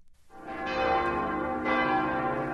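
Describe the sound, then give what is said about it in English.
Church bells of the Church of St. Maximilian in Bavaria, Germany, ring out loudly to herald the evening mass, their rich overlapping tones sustaining and swelling as new strikes layer over the lingering hum, with no voices present. “At the Church of St. Maximilian, bells herald the evening mass.”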